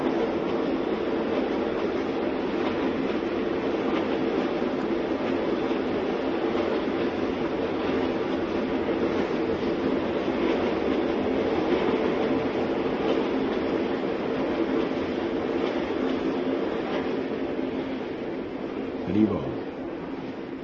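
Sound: passing train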